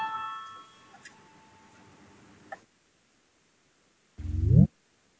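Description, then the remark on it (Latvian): A parliamentary voting bell signal rung to call a vote on the sixth proposal of the budget and finance (taxation) committee: a ringing electronic chime fades over a couple of seconds with a few faint clicks, then after a pause a short, loud, rising tone sounds. No one speaks. “Lūdzu, zvanu, balsosim par sesto budžeta un finanšu nodokļu komisijas priekšlikumu.”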